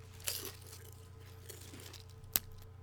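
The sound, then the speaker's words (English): A Golden Flake potato chip is bitten with a soft crunch, then a single sharper crack a couple of seconds later, both quiet, over a faint steady hum. “Let's see what sort of crunch we get from a”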